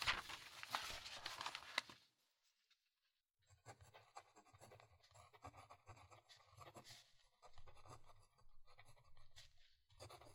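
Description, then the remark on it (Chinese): A brief rustling burst, a short pause, then steady scratching of a pen moving across paper in irregular strokes as someone writes a manuscript, quiet and continuous with small breaks, with no one speaking. “这才乖嘛，快去写吧，我也来帮忙哟。”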